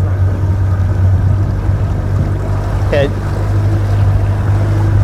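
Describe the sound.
A Mercury outboard boat engine, being worked on, runs with a steady, loud low drone throughout, with wind and water noise around it and a brief spoken word partway through.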